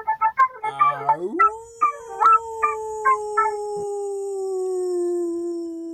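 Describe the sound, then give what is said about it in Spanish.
A wolf lets out a long, steady howl that rises and then holds for several seconds, preceded by a burst of short yips and barks. It is clear, with no voices. “Nana para un lobo miedoso, de Liliana Moyano.”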